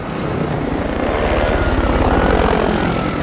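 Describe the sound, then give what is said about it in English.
A helicopter hovers over a crowded square, its rotor producing a steady, loud rhythmic chopping layered over a dense engine roar that stays constant throughout, with no voices. “The helicopter hovers over the crowded square.”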